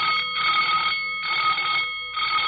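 A loud, continuous alarm bell rings on a December morning as a fight begins, in a rapid metallic clatter, pulsing in short bursts with brief gaps, insistent, with no voices.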